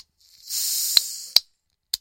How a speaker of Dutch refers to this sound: En dan gaan we even lekker aan de bier. Even een blikje open trekken. Kijk, dat werkt zo.